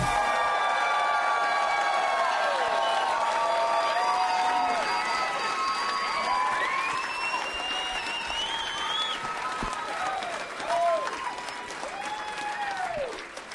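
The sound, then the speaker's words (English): A large live audience at the show Doug Loves Movies claps loudly and continuously, drowning out the theme song, a dense wash of applause with scattered whoops and cheers rising above it, sustained for the whole stretch. “You guys were clapping so loud that nobody could even hear the theme song.”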